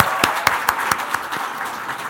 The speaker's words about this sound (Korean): 예, 박수로 맞으십시오.